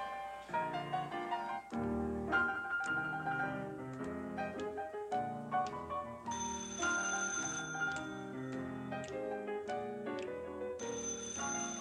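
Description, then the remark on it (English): A telephone rings with a busy, melodic electronic ring tune that plays steadily and fairly loud for the whole stretch, with no voices. “Now watch those phone cues, will you, honey?”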